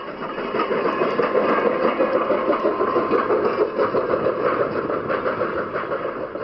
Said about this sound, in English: Now the line hauls tourists and has the distinction of being one of the few places in the United States where you can witness a steam engine in constant use.